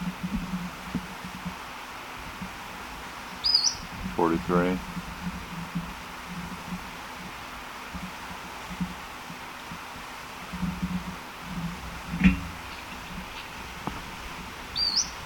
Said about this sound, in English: They're swooping back and forth. This may be the second bird.